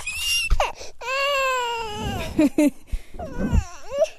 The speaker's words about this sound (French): Le bébé de Maidas Longa pleure. Il est contrarié.